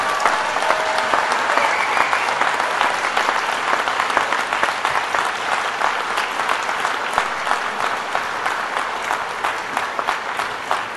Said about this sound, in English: I now invite you graduates, all of you, to please stand up. Look around and give a big round of applause to all of those who have supported you in your studies.